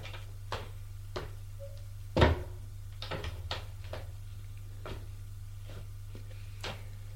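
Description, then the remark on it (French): A door is opened: scattered small clicks and knocks lead to one louder thud of the latch and frame, followed by a few softer taps, all over a steady low hum. “Et il ouvre une porte.”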